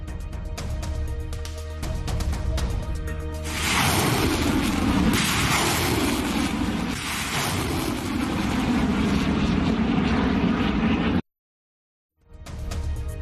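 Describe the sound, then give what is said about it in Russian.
A Russian Aerospace Forces Su-34 fighter-bomber, striking fortified positions and depots, hums with a steady tonal engine whine, then swells into a loud, broad jet roar that holds for several seconds, cuts out abruptly, and resumes. “На кадрах работы истребителей-бомбардировщиков Су-34 ВКС России, которые наносят удары по укрепленным позициям и складам украинских вооруженных формирований, ну и узкий ракет комплекса «БАЛ».”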